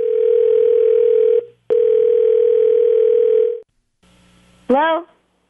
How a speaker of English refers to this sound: Producer MYK is dialing it. It is, okay, quiet, quiet. It's ringing. It's ringing.